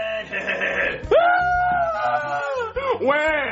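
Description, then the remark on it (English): A child crying loudly because everyone is making fun of him for having a girlfriend, in long, strained wails, the pitch sliding up and sagging, briefly breaking for a breath before another rising sob. “Jeffy, why are you crying?”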